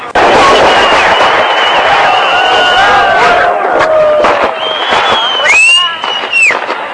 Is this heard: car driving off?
no